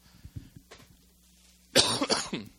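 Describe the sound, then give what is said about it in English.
A loud, harsh cough breaks in after a quiet stretch, rasping through a couple of quick bursts before trailing off. “Sorry for the cough.”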